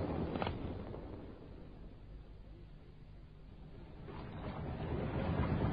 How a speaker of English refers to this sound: I've got the auxiliary engine going.